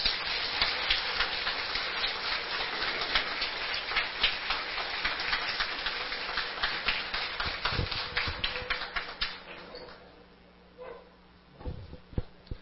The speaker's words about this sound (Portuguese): Uma salva de palmas.